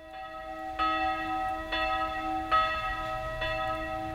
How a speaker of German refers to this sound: Wenn an diesem Sonntag die kleine Glocke im Dachreiter des Alfonsushauses im Kölner Stadtteil Mülheim zum Gottesdienst ruft, mischt sich Wehmut in die Klänge.